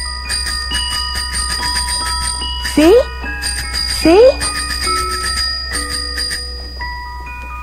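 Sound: tricycle bell ringing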